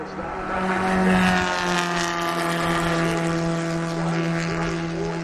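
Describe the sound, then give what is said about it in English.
A continuous, fairly loud drone of racing car engines fills the scene during a race, their buzzing tones holding steady with slight pitch wavers as cars circulate on the track. “At the moment, as we wait for that lead pack of cars, and the guys coming up the back, they don't care.”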